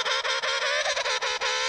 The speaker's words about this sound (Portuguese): E o som do pinguim, como é?